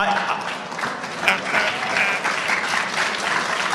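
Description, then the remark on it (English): Steady applause from an audience fills the whole stretch, dense and even, with many hands clapping at once at a moderately loud level. “I don't want to be Jeb Bush, but it's okay to clap.”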